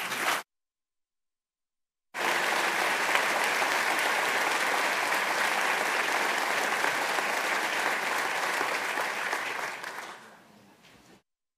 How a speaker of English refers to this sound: If we could hold our applause to the end, I'm going to welcome back our former members of the House.